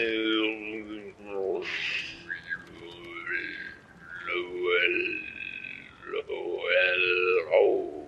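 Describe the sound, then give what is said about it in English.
A human voice mimics a whale's call with long, wavering moans that slide up and down in pitch, sustained and fairly loud for several seconds with no words spoken. “It's a whale.”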